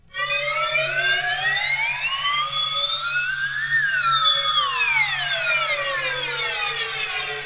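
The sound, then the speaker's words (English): A synthesizer tone imitating a slide whistle, sustained and rich in harmonics, gliding slowly upward to a peak and then sliding back down in pitch, loud and steady with no talking. “Yeah, now I just invented the digital slide whistle. The slide whistle synthesizer.”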